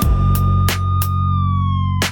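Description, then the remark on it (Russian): A distant traffic police car siren's sustained wail drifts slowly downward in pitch, blended into a music track with a deep bass bed and a few sharp, punchy drum hits. “Где-то вдалеке уже сирена слышна. Машина ДПС на горизонте видна.”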